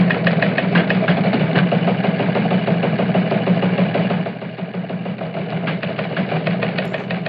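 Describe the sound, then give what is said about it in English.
A teletype machine runs steadily, a continuous mechanical clatter with a fast, even rhythm of taps over a low motor hum, with no voices. “Hey, the teletype machine is going. Let's hear what's there.”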